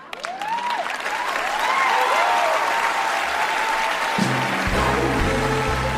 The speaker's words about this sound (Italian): E grandi applausi, la vera e propria chiamata alle armi, tra virgolette, di Frances McDormand in quell'edizione degli Oscar